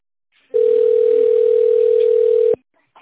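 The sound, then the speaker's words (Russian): A telephone ringback tone: one long, steady, mid-pitched beep lasting about two seconds, loud and unbroken, with only faint line hiss before and after; heard while waiting for an operator after calling the Telgo group of companies. “Дождитесь ответа оператора.”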